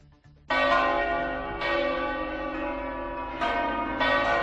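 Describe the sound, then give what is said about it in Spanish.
Bells of Madrid churches ring out loudly and continuously in memory of the 193 victims of the 11 March attacks, with fresh strikes near 0.5, 1.6, 3.4 and 4 seconds layering over a rich, sustained metallic hum. No voices are present. “Así sonaron ayer las campanas de las iglesias madrileñas en memoria por las 193 víctimas de los atentados del 11M.”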